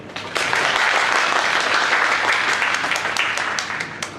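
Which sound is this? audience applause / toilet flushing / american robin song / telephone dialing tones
audience applause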